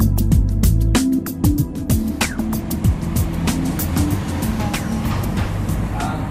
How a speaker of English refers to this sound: As traffic rumbles past the window